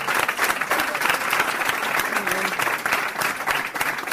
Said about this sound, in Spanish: Así que de verdad, de todo corazón, a vosotras, a vosotros, a las panchoneras, por todo lo que hacéis por Laredo, por todo lo que hacéis por nuestro pueblo. Un fuerte aplauso, sin duda.